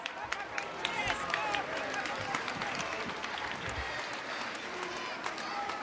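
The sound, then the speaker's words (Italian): A large crowd of faithful waiting on the churchyard outside a basilica fills the air with a steady wash of overlapping voices and scattered applause, sharp claps popping through the continuous murmur for the whole stretch. “All'uscita ancora un pensiero alla folla di fedeli che l'attendevano sul Sagrato.”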